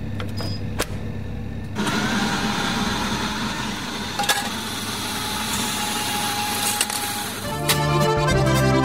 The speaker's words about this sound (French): Et là, c'est l'heure du jingle. Tiens, il est 9h30.